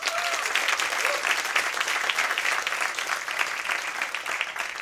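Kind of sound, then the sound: crowd, applause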